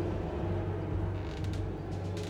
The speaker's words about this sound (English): When we stopped pedaling, the only sound was the soft groaning of the gondola and the eerie whistling of the wind over the mountain passes.